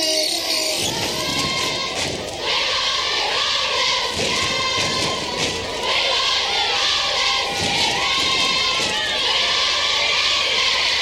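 A concert crowd in London in 1975 screams in anticipation of a band, a loud, continuous wall of high-pitched shrieks and shouts that swells and dips without pause, with occasional thumps underneath.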